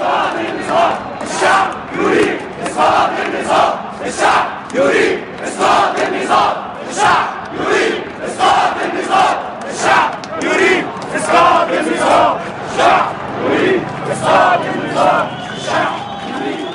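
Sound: protest crowd chanting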